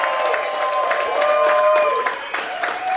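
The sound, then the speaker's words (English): A large sellout live audience at the Independence Hy-Vee claps and cheers steadily, a dense wash of applause with shouting voices and whoops rising above it, loud and continuous throughout. “So we've got a sellout crowd here tonight, right at the Independence Hy-Vee.”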